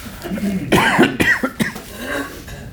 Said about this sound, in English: Excuse me, let me cough a little bit.